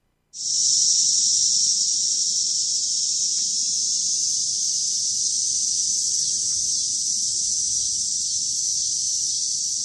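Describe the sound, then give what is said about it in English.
A loud, continuous high-pitched buzz of cicadas starts abruptly and holds steady without a break, a dense shrill drone with a faint low rumble underneath. “One of the things that I think is most distinct about cicadas is the sound they make, right?”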